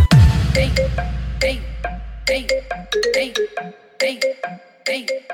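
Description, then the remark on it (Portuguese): A bright electronic phone ringtone plays a looping melody of short, bouncy notes in repeated bursts, loud, after an opening deep bass boom that fades away. “Mó cara de pau de agora me liga. No meu celular não tem mais o seu nome.”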